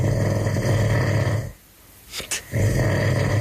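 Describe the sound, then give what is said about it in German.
A person snores loudly with deep, rattling, guttural breaths, played in an Antenne Brandenburg radio contest for the biggest snorer in Brandenburg. One long rumbling snore breaks off, a short snort follows in the pause, and then another heavy snore begins. “Antenne sucht die größte Schnarchnase Brandenburgs.”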